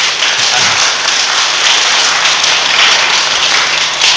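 Steady audience applause, a dense wash of many hands clapping at an even, loud level throughout, with no voices heard.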